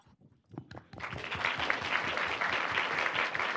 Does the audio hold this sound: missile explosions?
no